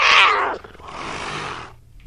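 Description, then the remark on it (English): A game sound effect labelled 'Curious cat', heard as an angry cat growling: a loud, harsh snarl in the first half second, trailing into a raspy, breathy hiss that fades after about a second, with no talking. “That sounds like a pissed off cat.”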